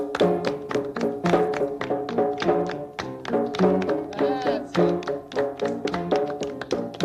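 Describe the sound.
A group claps back a rhythm that one person has just demonstrated: hands clap out a steady, repeated rhythm of sharp beats over several seconds, with a sustained tonal, music-like layer running beneath the claps.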